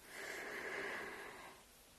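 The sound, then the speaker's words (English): A dog snores softly, one long raspy, breathy snort drawn out for over a second before fading. It is quiet, with no talking. “And you can hear my dog snoring, I'm sure.”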